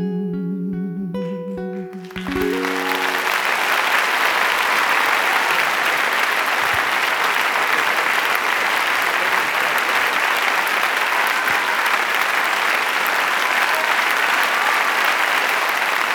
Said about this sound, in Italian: Applaudissez, applaudissez.